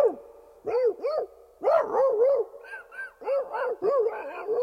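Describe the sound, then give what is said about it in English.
A voice imitates a dog fight: a rapid string of barks, yips and whiny yelps in uneven bursts, with brief gaps between flurries and no ordinary speech. “But the dogfight in the sub sounded like”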